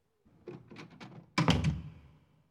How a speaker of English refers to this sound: He took the old man by the arm and led him to the door. As the door closed behind him,